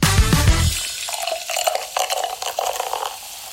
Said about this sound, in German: Ich weiß nicht, die wievielte Halbzeitbrause das ist. Das ist bestimmt die 13., 14., ich weiß es gar nicht. Und jedes Mal, kurz bevor dieses Blubbern aufhört, habe ich so einen Moment der Panik, weil ich mir nicht überlegt habe, was ich danach sagen